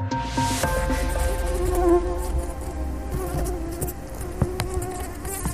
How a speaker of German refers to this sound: Diese Tigermücke hat es aber wirklich in sich. Warum? Sie verbreitet die häufigste Infektionskrankheit der Welt.